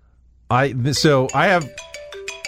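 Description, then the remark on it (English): A person speaks briefly, then a phone alarm set for 8:29 starts up: a clear electronic melody of steady, stepping tones with short repeated pulses, fairly loud. “All right, so at 8:29, which is in 20 seconds, my alarm should go off, and I'll give you the sound that it makes.”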